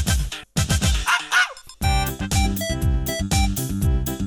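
A small poodle yaps in quick, sharp bursts, loud, with a brief pause before a dense run of rapid, high-pitched barks.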